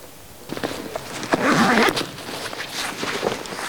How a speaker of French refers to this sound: Tu te repères au son des brebis? Ouais, au son des cloches. Là, ça, c'est des brebis du Pays Toy, donc d'ici. Et elles ont des cloches différentes des miennes, qui sont des brebis basques.